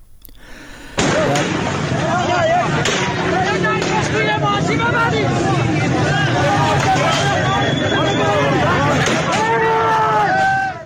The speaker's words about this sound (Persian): ویدیوهایی نیز از اعتراضات مردم در هفتجان در چهارمحال و بختیاری منتشر شده که در آنها صدای تیراندازی و درگیری شدید معترضان و نیروهای امنیتی شنیده می شود.